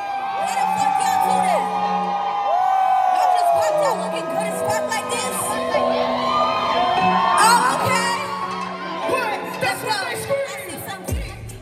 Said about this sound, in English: Everybody was like hyping her up, like yelling her name or just like singing the words to her song.